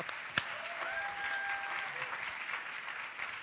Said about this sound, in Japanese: もう一度みんな拍手してください。